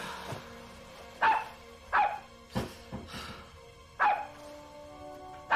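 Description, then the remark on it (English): A collie dog named Fred, standing atop a staircase, barks repeatedly, about six sharp, loud yelps spaced irregularly over a few seconds, with a low steady hum underneath and no talking. “A collie stands atop a staircase.”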